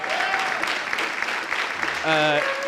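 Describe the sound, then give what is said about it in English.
A crowd claps steadily for the speaker's younger brother in a dense, continuous patter, with a few voices calling out and a brief cheer rising near the end. “And he doesn't say much, but you should clap for him.”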